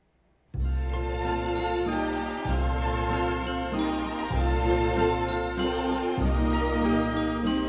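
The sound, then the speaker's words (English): After a brief silence, a Christmas song intro plays on a Grundig at dusk with Christmas lights on: bright jingling bells ring over full, sustained chords with a steady, swaying pulse, loud, with no voices. “And on the Grundig came this song.”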